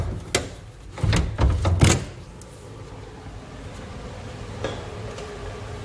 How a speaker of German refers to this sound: Ich glaube, wir können die Tür auch noch aufmachen.